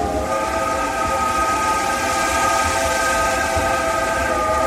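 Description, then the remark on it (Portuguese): A steam train's whistle blows steadily and loudly for the whole stretch, a sustained multi-toned wail layered over a churning, rumbling low chug of the locomotive. “Para o Caigangue, era Jiriri Tampim, o trem que cuspia fogo.”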